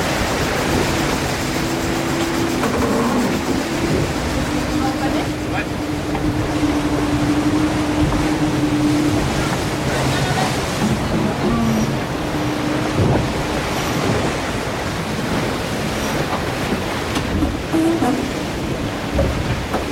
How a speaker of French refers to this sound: Et puis, voilà, il y a le bateau, il y a l'océan, etc.